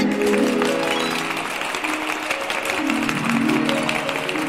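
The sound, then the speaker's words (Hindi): A group claps steadily and loudly for several seconds, dense overlapping hand claps with a bright musical tone sliding underneath. “इसी बात पे सब बजा ताली।”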